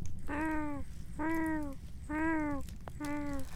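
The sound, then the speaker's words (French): Four drawn-out cat meows repeat at a steady pace, each about half a second long with a slightly arching pitch, over a low background rumble. “Il y a un animal. C'est miaulé.”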